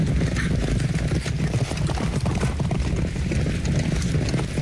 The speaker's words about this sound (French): Ce sont des sabots de chevaux qui foulent le sol. À Deauville, c'est une habitude. Les chevaux font partie du paysage, à l'hippodrome, sur la plage et même dans la rue.